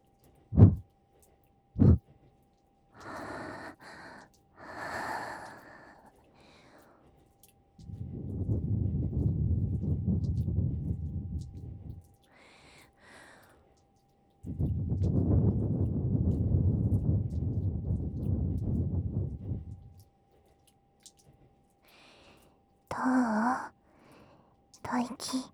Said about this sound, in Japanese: 感じちゃうでしょ。熱い吐息がお兄さんのお耳にかかってるの。すごくエッチだよね。